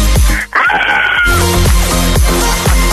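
A man lets out a loud, drawn-out scream that sounds thin and compressed, as if over a phone line, while rhythmic music with a steady bass beat keeps playing underneath.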